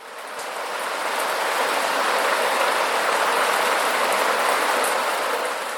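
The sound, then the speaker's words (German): Steady rain hisses as a dense, even patter, with a few sharper drips ticking through it. The sound swells in gently at the start and eases off at the end, with no voices. “Doch so oft sie auch ihre Nase an die Scheibe drückten, es wollte nicht aufhören, von oben zu tropfen.”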